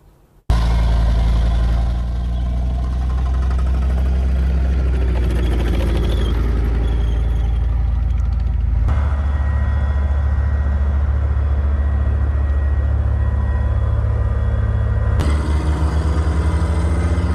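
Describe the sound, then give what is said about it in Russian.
A self-propelled anti-aircraft gun's engine idles loudly and steadily, a deep rumbling drone that shifts its pitch slightly a couple of times, with no voices. “Це універсальна зенітна самохідна установка, вона працює як по повітряним цілям, може збивати літаки, гелікоптери, шахіди, точніше дрони камікадзе, крилаті ракети.”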